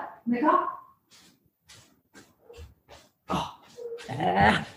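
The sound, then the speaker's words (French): Dogs whine and yelp in short, uneven bursts, with a couple of louder outbursts at the start and end and quieter scuffling noises in between. “D'accord. Les chiens.”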